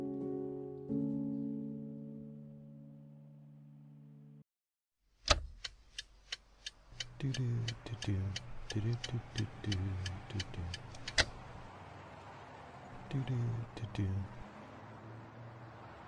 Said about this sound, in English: I'm in the car. Sometimes I like driving north of the city. I'm going to one of the big Chinese malls up there in the suburbs.